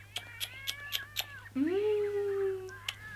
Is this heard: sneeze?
no